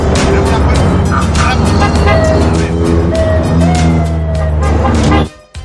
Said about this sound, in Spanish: Cierra la puerta, que están entrando el ruido de los coches.